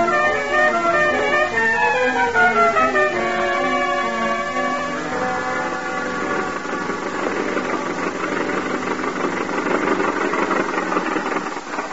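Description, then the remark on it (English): A car engine runs steadily and fairly loud while the car is being driven, its hum rising and shifting in pitch at first, then settling into a rougher, even drone. No voices are heard. “The car's just around the corner.”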